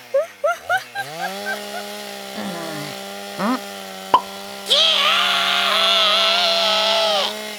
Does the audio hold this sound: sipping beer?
no